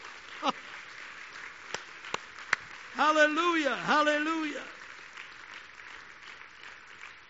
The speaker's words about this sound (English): Hallelujah. Oh, let's clap our hands unto the Lord.